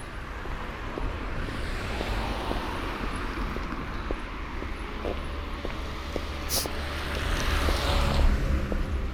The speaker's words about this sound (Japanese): 休日だからか、車の通りが多いね。